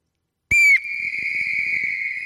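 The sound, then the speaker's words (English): An audience all blowing their whistles at once on cue: a sudden, loud burst of shrill whistles merging into one sustained piercing tone that holds for about two seconds over a faint rumble of crowd noise. “We're going to blow the whistle on the wolf. Everybody, get your whistle out.”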